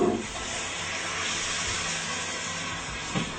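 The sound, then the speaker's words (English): A steady sizzle and hiss fills the whole stretch as tomatoes are put into a hot pan with already-cooked ham, with a slight bump of clatter near the end and no voices. “And now I'm gonna put the tomatoes. Put it in.”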